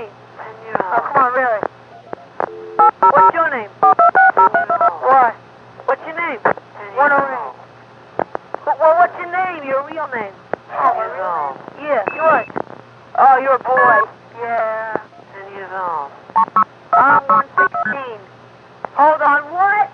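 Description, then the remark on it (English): Touch-tone dialing beeps, as a caller dials back into a telephone conference, come in short bursts, mixed with muffled voices over a telephone line, all above a steady low hum that runs throughout. “Why don't you just call 0010 and ask him?”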